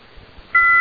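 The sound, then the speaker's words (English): Faint line hiss gives way to a sudden steady electronic beep on a dead, out-of-service phone line by the Boston Metro, a loud two-tone signal that holds to the end. “Now, this will ring once, and then it will beep.”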